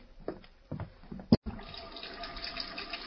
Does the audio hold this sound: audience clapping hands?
no